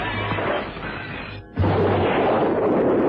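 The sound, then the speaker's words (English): A loud parcel bomb blast as the parcel is thrown at a window, with window glass shattering, a dense, roaring crash of debris that briefly drops out midway and then surges back just as loud, with no voices. “The explosion rocked the room.”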